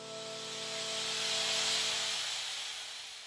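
A steady, bright static hiss from a radio antenna receiver, recorded by two radio astronomers in the antenna's cockpit on a quiet May morning; the hiss is the echo of the Big Bang. It swells slightly in the middle and eases off, with faint low humming tones underneath and no voices.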